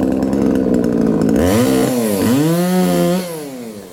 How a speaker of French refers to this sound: C'est vrai que c'est assez glauque, en fait, d'entendre juste un bruit de tronçonneuse.